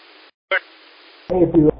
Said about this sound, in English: Echo Link Station trying to come in there.